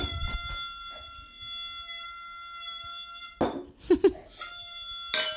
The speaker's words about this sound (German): Ich möchte noch eine kleine Tröte für dich blasen. Los, mach, blas.